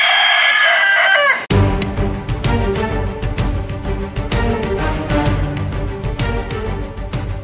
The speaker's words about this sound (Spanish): Un gallo sano.